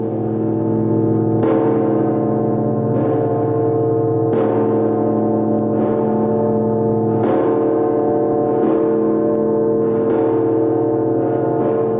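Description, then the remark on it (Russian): Church bells ring steadily, struck about every second and a half, each stroke layering over a loud, sustained, humming wash of overlapping tones. No voices are heard. “Заметьте, несмотря на то, что колокол – это музыкальный инструмент, мы не говорим «колокольная музыка», мы говорим «колокольный звон».”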